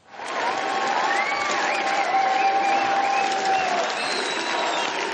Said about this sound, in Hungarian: Sokáig nem tudta elkezdeni győzelmi beszédét Orbán Viktor, a tömeg percekig hangosan éjjenzett és tapsolt.